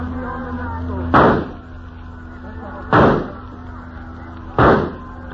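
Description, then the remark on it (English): Three loud, sharp rifle shots ring out at a steady pace, each a sudden crack with a short rumbling tail, over a continuous low mechanical hum. “That is real good shooting.”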